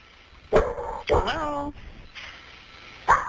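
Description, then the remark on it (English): A dog gives three barks over a 911 emergency phone call: a short sharp one, then a longer whining, drawn-out bark with a falling pitch, a pause, and another abrupt bark. The sound is thin and compressed. “Maybe it's the 911 operator not knowing there's a dog on the other end.”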